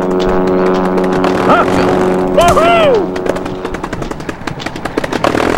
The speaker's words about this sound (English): Woohoo! These are cool sounding planes.